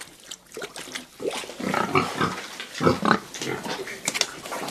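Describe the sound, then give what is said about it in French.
Several pigs grunt and snort continuously, with busy overlapping squeals and snuffles, the noisy bursts of animals jostling to eat their evening meal, their last before slaughter. “ça me manquait, vous voyez, quand je fais le fromage de chèvre, j'ai le petit lait”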